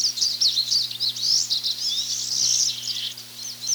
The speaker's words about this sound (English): The most ubiquitous Northland sound this spring is the pine siskin, with its chittering notes and zippy song.